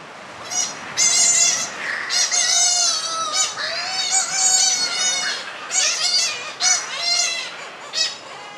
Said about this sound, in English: That's Lord Howe Island, full of birds with personality. And wind off the ocean. And palm trees rustling all the time. And shearwater chicks getting a feed.